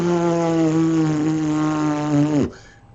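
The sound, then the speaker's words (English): A voice imitates a CPAP mask's noise with a loud, steady buzzing hum held for about two and a half seconds before the pitch sags and it abruptly stops. “I don't snore anymore, but my mask goes... It keeps the whole fucking house up.”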